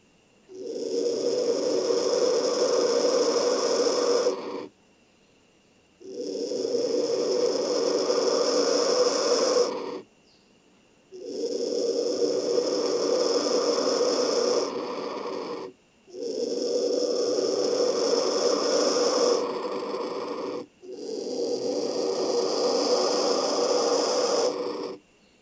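Young black vultures hiss in a nest in the buttress roots of a rainforest tree, five long raspy breathy bursts of about four seconds each with short pauses between, loud, with a harsh growling, snore-like texture.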